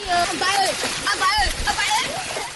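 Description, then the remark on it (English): Children shout and call out over steady splashing and sloshing water, their high voices rising and falling as they play in a stream in the village of Oruma, a stream villagers say was polluted by an oil spill. “children play in a stream.”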